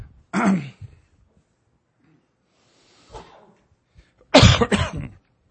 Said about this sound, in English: So you just may have to write it out while I cough it out. But hopefully it won't be too bad.